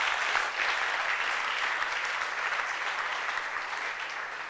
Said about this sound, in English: I think you can clap to God.